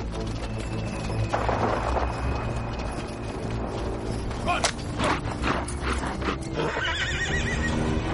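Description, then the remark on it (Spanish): A horse with a rider gallops hard at full speed, hooves pounding in a rapid rhythm, with a loud whinny and creaking, rattling tack mixed into a dense, busy scene with no talking. “Vamos a escuchar a un jinete, vamos a escuchar a un caballo a toda velocidad y vamos a escuchar una espada.”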